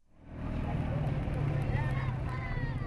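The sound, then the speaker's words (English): A small Chinese motorcycle engine drones steadily in Kabul, Afghanistan, rising in after a brief quiet start, with busy street noise and indistinct voices in the background. “Small Chinese motorcycles are one of the preferred methods of transportation in Kabul.”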